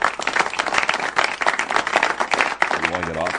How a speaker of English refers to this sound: I'm hearing the applause. Yeah, you want to, you know, get off the stage. They're being polite.